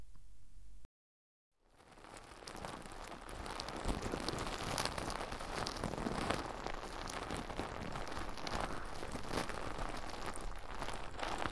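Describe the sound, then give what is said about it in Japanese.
Soap foam from a foaming dispenser, taken into the palm, being spread over and around one ear: dense, wet crackling and fizzing, a continuous bubbly popping texture that fades in after a brief silence and stays steady throughout. “まずはこの、泡で出てくるソープをたっぷり手のひらに出して、では、手に出したこのもちもちの泡を、お耳に塗っていきますね。”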